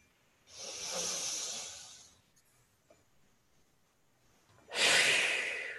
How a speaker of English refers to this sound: Deep breathing definitely helps you to get into a quiet and restful state. And I'll demonstrate a deep breath. Here it is.